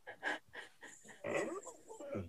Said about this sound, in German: Es geht um Hund, damit der Hörer weiß, um was es geht.